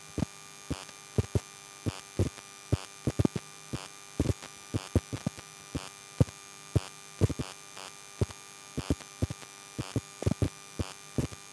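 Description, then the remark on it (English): An electromagnetic pickup coil placed on top of a Sky Q satellite TV box gives a steady electrical hum broken by sharp, irregular clicking pulses in a rhythmic, glitchy pattern, fairly quiet, with no voices. “When you take an EM pickup coil and put it on top of your Sky Q box, you might get a noise like this, which is rather rhythmical and cool.”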